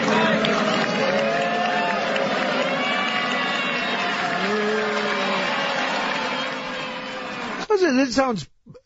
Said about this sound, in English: And he goes in and he is greeted by a mixed reaction, I think, would be a fair assessment. There are a number of boos and there are a number of cheers. Mike Pence's arrival at the theater sounded something like this.